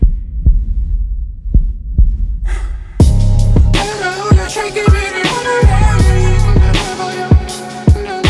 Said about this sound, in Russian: Голосовые сообщения пусты, а я записывал тебе сердцебиение.